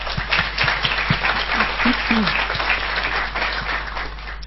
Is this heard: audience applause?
yes